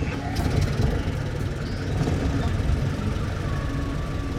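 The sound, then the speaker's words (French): An ambulance engine rumbles steadily, a continuous low idling drone that stays moderately loud throughout, with faint higher hums riding on top. “Les moteurs de l'ambulance grondent.”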